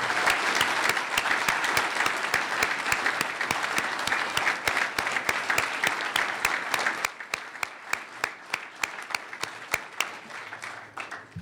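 Sustained applause from a large audience for politician Marlon Stutzman and his family at the end of his campaign, a dense wash of many hands clapping at once that thins after several seconds into scattered individual claps before fading out.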